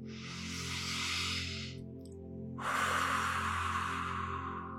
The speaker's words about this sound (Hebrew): לשאוף דרך האף ולנשוף דרך הפה. רגע להירגע, להרפות.